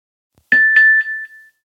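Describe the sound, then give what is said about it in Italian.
A mobile phone text message alert for an SMS warning of acqua alta (high water) at 12:30: three or four quick bright electronic chimes on a single pitch, the last one ringing on and fading away, with no voices. “Il cellulare di Leone manda un SMS.”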